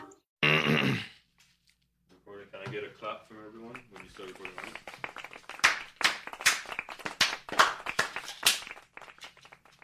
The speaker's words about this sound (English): Baby clap. My little clap. A penguin clap.